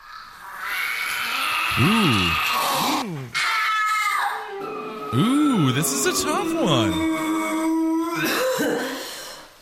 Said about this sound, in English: You don't see the exorcist choking this woman above a bucket. That's what he's doing. Oh, that's the woman that vomits.